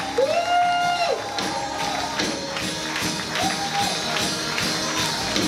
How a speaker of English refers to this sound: go on, just give him a cheer this morning. Come on, just give him a cheer. Thank you, Lord.